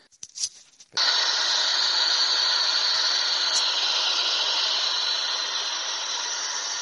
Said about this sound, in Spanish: Vamos a probar haciendo preguntas utilizando este ruido blanco.